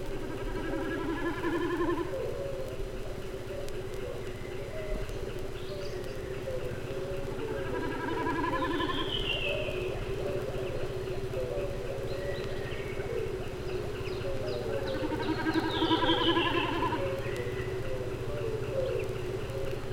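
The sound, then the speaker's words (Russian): Snipe drumming while diving high in a blue sky: three tremulous, bleating bursts, each a couple of seconds long and made by vibrating tail feathers, repeating every few seconds over a steady low background hum. No voices. “Вот он пикирует, слышно, как вибрирует перья хвоста.”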